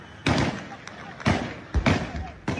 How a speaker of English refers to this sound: Yesterday, gunfire rocked Libya's capital, Tripoli.